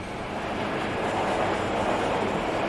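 train departing from station

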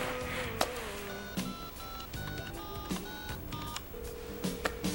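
telephone keypad dialing tones

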